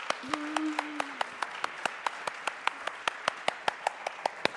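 An audience applauds steadily for several seconds, a wash of clapping with sharp, evenly spaced claps standing out in a quick rhythm; a brief voice sounds early on.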